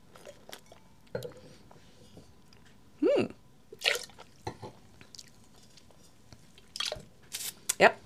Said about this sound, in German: Spucken muss man auch so ein bisschen üben, ne? Dass das elegant aussieht und man nicht da so rumsabbert.